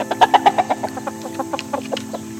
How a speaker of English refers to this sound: I hear ducks. And geese. Hey, geese sound kind of like cars, Dad.